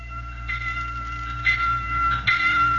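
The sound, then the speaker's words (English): A warning bell clangs in slow, evenly spaced strokes about a second apart, its bright metallic ring hanging over a low, steady rumble, with no one talking. “But here's another opinion, a warning bell to stop, look, and listen.”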